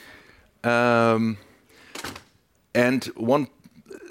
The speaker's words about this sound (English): I will close the door here. I think it makes it easier.